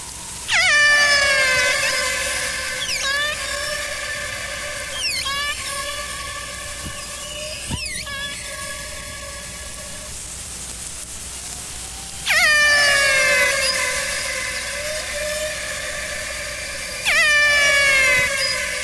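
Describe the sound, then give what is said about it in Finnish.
Killer whale calls: loud, buzzy, whistle-like cries with bending pitch sweep in at three points, fading into softer chirps and squeaks over a steady hiss. No one speaks. “Kun niitä kuuntelen, on vaikea kuvitella, että ne on miekkavalaan ääniä.”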